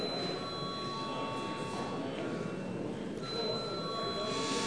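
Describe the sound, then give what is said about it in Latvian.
A continuous electric bell rings steadily in a parliament, calling deputies to a vote; a sustained metallic tone that barely wavers, with a low murmur of room noise underneath throughout. “Deputāti pras balsojumu, lūdzu zvanu.”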